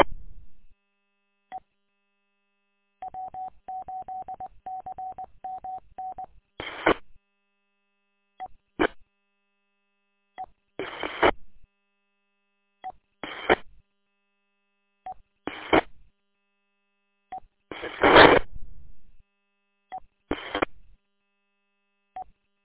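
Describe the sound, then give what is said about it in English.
A steady electronic tone pulses in a quick even series, followed by several short bursts of telephone keypad dialing tones spaced irregularly as someone places a phone call, each a brief bright beep, clear with no talking. “I think I'll give you a call on the phone.”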